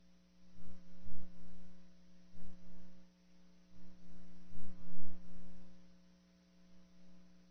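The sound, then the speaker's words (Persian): An emergency alert system test tone, the signal heard first in an emergency such as an earthquake or fire, before instructions follow: a steady, unbroken electronic drone with a low buzzing pitch and layered overtones, sounding alone without any voices, with faint irregular rumbles underneath. “این آزمایش سیستم هشدار دهنده برای مقابله با وضعیت اضطراری است.”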